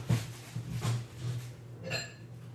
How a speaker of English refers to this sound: Okay, hold on. I've got ramen noodles. Stay there. I got ramen noodles. I got them right here. All right, I'm getting a bowl. Hold on.